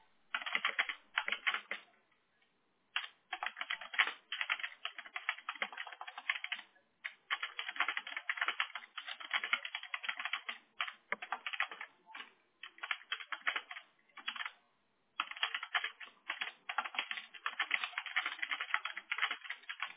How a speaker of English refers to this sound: Thank you for your patience and waiting while I'm typing this out.